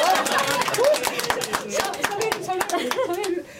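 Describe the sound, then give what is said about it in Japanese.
A group applauds steadily, a dense patter of quick overlapping claps running throughout, with a few voices calling out and chattering over it before the clapping cuts off near the end. “どんどん拍手入れてこう。”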